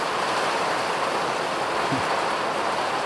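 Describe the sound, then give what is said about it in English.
A dense, steady roar of a hailstorm squall coming off the Atlantic Ocean in Ireland, hailstones pelting down outside a house about 200 meters from the ocean, a continuous loud hiss of impacts with no breaks and no voices. “So this is like a proper squall coming off the Atlantic Ocean.”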